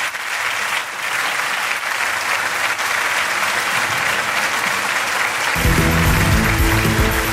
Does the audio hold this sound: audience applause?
yes